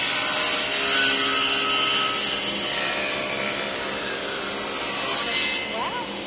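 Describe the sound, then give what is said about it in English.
A power saw runs steadily through wood for several seconds, a loud, dense grinding whine with a rasping edge, then starts to wind down near the end. “Now you turn off the saw.”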